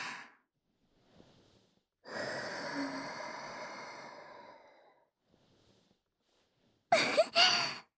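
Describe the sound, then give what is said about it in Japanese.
In an adult audio roleplay, a soft, airy breath is blown out steadily onto the listener's penis for about three seconds, hushed and breathy. It is preceded by a faint shorter breath and followed by a brief sharper puff of air. No one speaks. “まあ、骨の髄までお仕事が染みついちゃって、おちんちんに、ふーって吐息かけてあげたいなって。”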